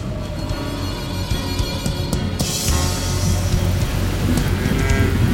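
Steady heavy rain hisses throughout while deep thunder rumbles underneath, the downpour swelling louder about halfway through. No voices are heard.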